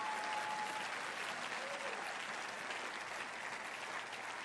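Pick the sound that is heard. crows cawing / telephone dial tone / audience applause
audience applause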